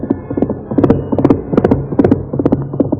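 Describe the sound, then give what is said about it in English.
Hooves of Silver, the Lone Ranger's great white horse, galloping hard over rough ground pound out a fast, steady rhythm of loud clip-clop beats, repeating throughout with no voices present. “In spite of the rough ground where a misstep would have meant death for both horse and rider, Silver's hoofs beat out a savage tattoo.”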